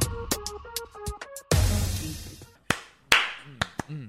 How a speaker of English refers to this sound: I'm trying to clap